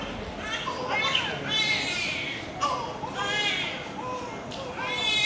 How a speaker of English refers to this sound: All beds in the intensive care unit of Jayavarman 7 Children's Hospital are full. IV drips are attached to screaming infants.